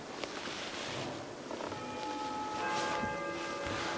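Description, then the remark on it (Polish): A bell rings out, its clear sustained tones ringing and lingering over a steady, hissy background, growing fuller toward the end. No one speaks. “Tak zabił dzwon, który wywołuje moją żonę, także się przygotuj.”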